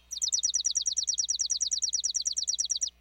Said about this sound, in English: Songs can also be dry and mechanical, like this chipping sparrow's.